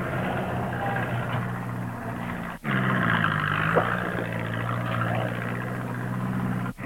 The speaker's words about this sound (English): Tractor's stuck now on a rather large board, but worked himself free, backing up for another big push.